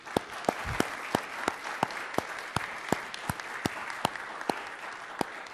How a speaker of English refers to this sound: So let's give them like a ridiculously loud applause. I'll give them a recording of it afterwards. So 1, 2, and 3.